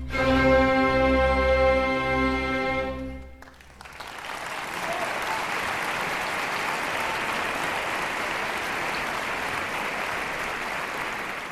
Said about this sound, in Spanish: Bueno, es que era una grabación de una ópera en directo y por eso hemos dejado ahí los aplausos después de este aria.